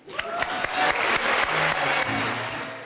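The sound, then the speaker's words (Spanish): A long, steady ovation at the Magnesia Litera 2010 book awards for the late writer Jan Balaban: dense clapping from a large crowd, loud and unbroken for the whole stretch, with sharper individual claps popping out and a faint low tonal hum beneath. “Ovación cerrada para el gran ausente de la noche, el escritor y traductor Jan Balaban, que no ha podido ver el éxito cosechado por su última obra.”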